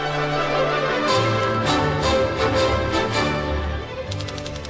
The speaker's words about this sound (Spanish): Y bueno, pues en principio nos gustaría presentar ahora unas noticias, que siempre hablamos aquí de la universidad y de las noticias de la universidad, con la música que nos pone aquí Enrique para con la máquina de escribir.